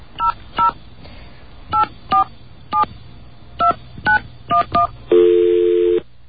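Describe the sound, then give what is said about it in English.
Nine crisp touch-tone keypresses beep in quick, uneven bursts as the Visa assistance number is dialed, then a steady electronic telephone tone hums for about a second. The tones are clear, with no voices. “Let's get a dial tone. And let's call the number.”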